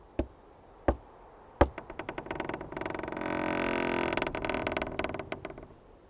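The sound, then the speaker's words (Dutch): Three sharp, evenly spaced knocks as an old woman knocks at a castle door on a cold Christmas evening, ringing out clear, then giving way to a rapid rattle that swells into a steady, engine-like roar. “Op een koude kerstavond, niet eens zo lang geleden, klopte een oud vrouwtje aan de deur.”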